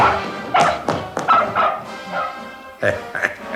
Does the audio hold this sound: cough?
no